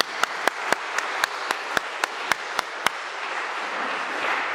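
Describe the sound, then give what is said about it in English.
Audience applause at a church: a soft wash of many hands, with one set of sharp, evenly timed claps standing out for about three seconds before the crowd's clapping continues alone. “So I think a round of applause in advance.”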